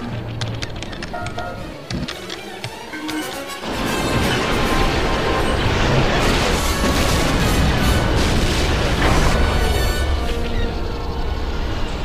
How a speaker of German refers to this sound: Der Kreuzer unter uns! Der Hauptantrieb ist ausgefallen! Er hat gestoppt! Und da, eine Explosion! Er hat sich komplett durchgebrannt!